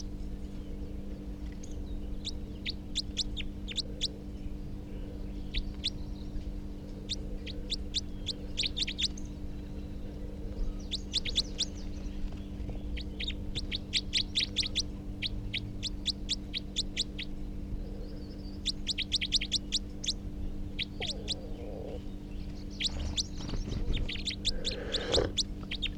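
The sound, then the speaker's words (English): A second wild male bird gives bursts of rapid, high-pitched type 4 calls, each burst a quick run of sharp notes, repeated every few seconds over a steady low hum. “So recording the new wild, the second wild male type 4, who's giving rapid type 4 calls.”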